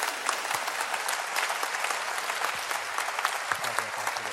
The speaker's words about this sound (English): And we applaud you for this wonderful event. We truly do.